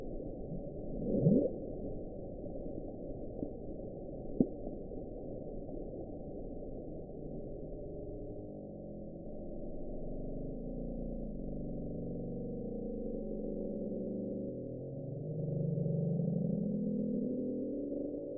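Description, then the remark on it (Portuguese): A murky underwater ocean recording of the mysterious low rumble called The Bloob, a bizarre sound found at the bottom of the sea: a steady muffled drone with a couple of brief knocks early on, then a slow rising, swelling tone near the end. No voices. “Nexus, bota aí na edição, The Bloob.”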